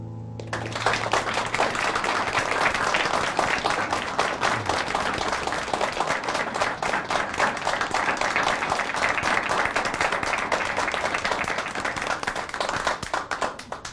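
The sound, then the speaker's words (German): A large audience applauds steadily and enthusiastically after a song, nearly enough applause to call for an encore and a second piece, a dense wash of clapping that holds at a strong, even level for the whole stretch before tapering slightly near the end. “Also das ist ja beinahe ein Applaus für einen Da Capo und noch für einen zweiten Titel.”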